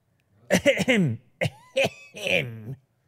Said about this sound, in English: It was a fake. That was a social cough.